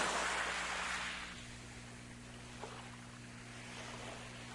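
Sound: ocean waves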